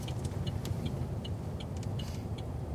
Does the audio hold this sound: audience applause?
no